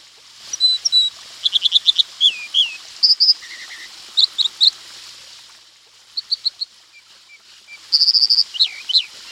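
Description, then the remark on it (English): A stream bird's clear, ringing song of bright, high repeated notes in quick bursts and trills, with short pauses between phrases, heard alone over a faint steady background hiss like rushing water. The bird nests above or beside fast-moving streams, on cliff ledges, behind waterfalls, on boulders or under bridges. “Their song is clear and ringing with repeated notes.”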